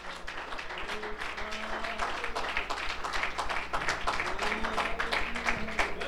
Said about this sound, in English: Somebody give a hand clap of praise to the Lord today.